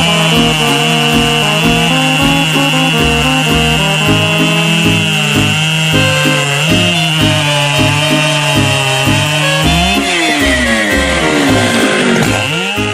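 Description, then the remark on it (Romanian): A chainsaw cutting wood runs loudly and steadily, its buzzing engine drone rising and falling as it cuts, with a couple of sharp revs near the end and no voices. “Să-mi spune și mie de ce păsările din Harghita și Covasna fac ca drujba.”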